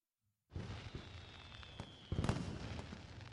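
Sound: fireworks bursting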